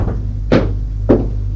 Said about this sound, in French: Elle frappe à la porte.